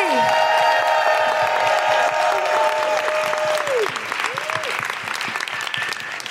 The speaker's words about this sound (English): And keep that applause going for the wonderful ….